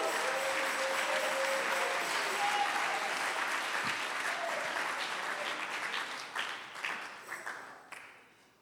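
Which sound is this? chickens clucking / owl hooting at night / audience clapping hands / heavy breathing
audience clapping hands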